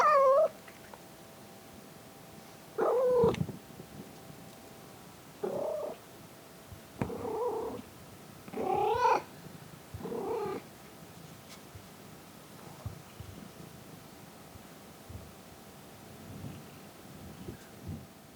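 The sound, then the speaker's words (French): A cat meows about six times in the first ten seconds, fairly loud, with irregular pauses between calls, followed by quieter low rumbling and faint rustling. “Le néant, ce chat.”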